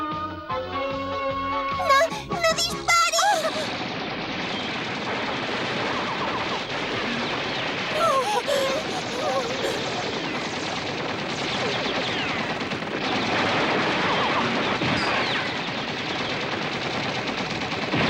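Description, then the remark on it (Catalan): Two soldiers fire at a bathroom door: a loud burst of rapid gunfire rattles off in quick succession, then gives way to a long, dense wash of noise and debris-like clatter that lingers steady with no voices. “Usen la porta trets.”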